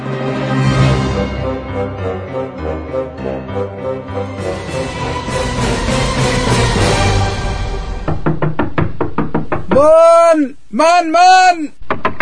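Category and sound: household object, knocking on a door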